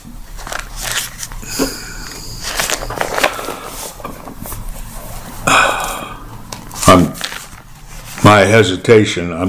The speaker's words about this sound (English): I'm turning pages, folks. I'm turning pages.